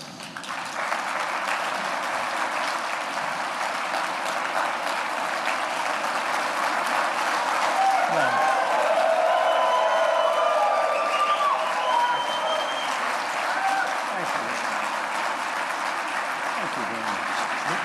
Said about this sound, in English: Thank you very much. Standing ovation.